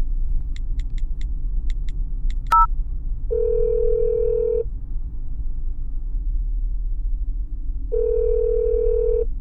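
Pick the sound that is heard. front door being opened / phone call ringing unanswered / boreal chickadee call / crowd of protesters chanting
phone call ringing unanswered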